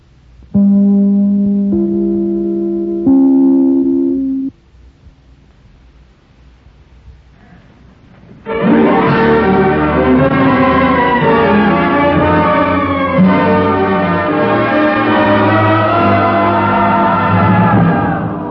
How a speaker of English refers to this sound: I'd better break this up right here and ring my chimes. This is NBC, the National Broadcasting Company.